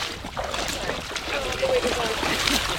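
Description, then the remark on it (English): Steady sloshing and splashing of water as someone wearing blue waders wades and splashes into a boat with oceanographers, a continuous wash of noise with faint, indistinct voices in the background. “To go out with them, I put on blue waders so I can splash into the boat.”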